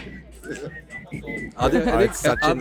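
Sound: person whistling a tune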